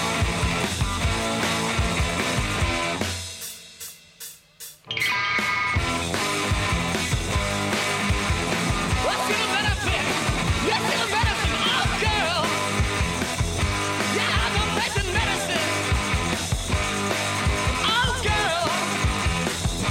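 A loud, dense rock song with pounding drums and distorted guitar; a few seconds in it drops almost to silence with a few sharp taps, then the full band crashes back in.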